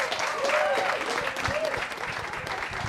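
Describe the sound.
An audience claps steadily for about three seconds, a dense, fairly loud patter of many hands with a few faint voices and a whistle-like tone rising through it.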